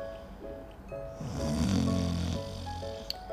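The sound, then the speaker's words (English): A voice imitates a giraffe's single drawn-out, rumbling snore that swells and then fades, fairly loud, over soft, steady background music. “The lions came and they roared and roared, but that giraffe just snored and snored.”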